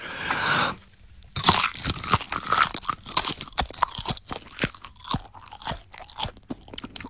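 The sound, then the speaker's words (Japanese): Crisp, crackly crunching of canned, seasoned dried nori seaweed from Otsu, Yokosuka, being chewed: a dense run of sharp irregular snaps after a brief rustle and a short pause. No one speaks. “へぇ、大津海苔。”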